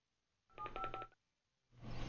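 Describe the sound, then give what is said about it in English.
A quick run of electronic telephone keypad tones as a phone number is redialed to reach a caller, several beeps in steady succession, fairly loud, followed after a short pause by a burst of hissy line noise. “And we'll just have to keep trying until we get him on the line, okay?”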